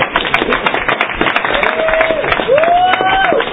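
Steady applause from a crowd, dense overlapping claps filling the whole clip, with a couple of rising, sustained whoops or whistles cutting through near the end.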